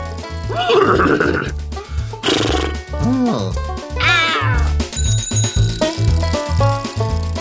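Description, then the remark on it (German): A human voice imitates a horse's whinny with several wavering, rising and falling squeals, loud, over a steady thumping music beat. “Kannst du auch wiehern?”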